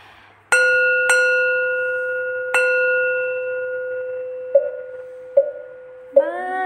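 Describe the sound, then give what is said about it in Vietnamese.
A Buddhist temple bell is struck three times, each stroke ringing out with a long, shimmering sustain, followed by three softer, duller taps as a chanting voice begins at the very end; the bell and wooden fish are sounded for the souls of the dead. “Đây nhân duyên pháp bảo hội khai kinh, chuông mỏ rong vì vong mà đổ tận.”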